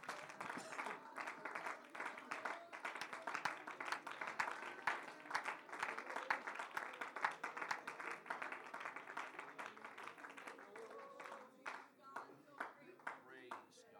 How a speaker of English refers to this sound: Let's clap our hands and worship Him today.